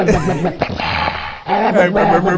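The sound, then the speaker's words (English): A person imitates an angry dog, growling and barking in rough, loud bursts, with a short break midway before the snarling resumes. “Gets me angry. It's the angry dog.”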